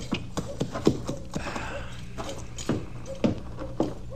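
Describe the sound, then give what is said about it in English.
A horse's hooves clip-clop at an unhurried, uneven walking pace as it is led to a livery stable, the sharp knocks pausing midway before the steps resume over a low background murmur. “You take my horse on around to the livery stable, will you, Chester?”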